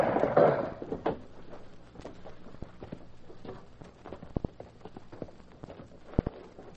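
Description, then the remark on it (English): Slow horse hooves of the Lone Ranger and Tonto riding down the deserted main street of Newton clip-clop along at an unhurried, uneven pace, sharp hollow knocks spaced apart, some in quick pairs, over a low background murmur with no one speaking. “At that moment, the Lone Ranger and Tonto were riding slowly down the deserted main street of Newton.”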